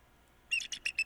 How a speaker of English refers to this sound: Yeah. That's one I hear outside the window occasionally, too. Yes. So that's a bald eagle. Sounds like gym shoes on a basketball floor. Squeak, squeaky gym shoes.